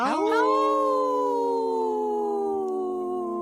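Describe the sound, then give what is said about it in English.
A person imitates a wolf howl: one long, sustained, wavering voiced tone that rises sharply at the start, then holds and slowly sinks over a few seconds, loud. “Howl! Oh, good one”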